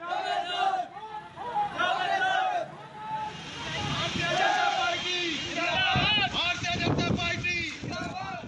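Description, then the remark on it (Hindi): A dense crowd at an election campaign gathering in Gorakhpur chanting and shouting together, loud and continuous, with bursts of slogan-like cries rising over a constant roar of babble and some wind noise. “और ये गोरखपुर में चुनाव प्रचार की भीड़ है”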